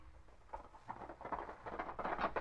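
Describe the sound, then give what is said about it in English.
Hooves of a ridden horse gallop in a steady, rapid rhythm of muffled thuds, fairly quiet, with no voices over them. “Pull up that horse, or by gobs, I'll pull you down off of it.”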